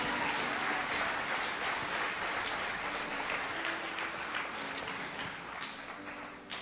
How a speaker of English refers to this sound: But you know, one more just a round of applause to him. We just wanted to say thank you so much.